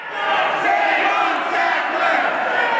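Protesters chant together inside the Guggenheim Museum in New York during a staged protest against the opioid OxyContin, a dense wall of many voices held loud and steady for the whole stretch without a break, with no single speaker standing out.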